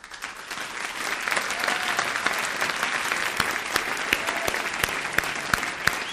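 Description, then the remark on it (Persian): Audience applause runs steadily for about six seconds, a dense wash of many hands clapping at an even loudness, with a few sharper individual claps standing out. “تشویقش.”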